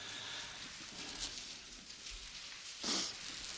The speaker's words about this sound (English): It's good to hear the pages turning. That's a good sound.